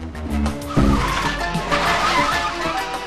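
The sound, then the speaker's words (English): In a car chase, a police car pursues a stolen car. Engines roar past, revving, with tires skidding and squealing, loud, with a sudden surge about a second in and sustained screeching throughout. “A police car and the officials give chase.”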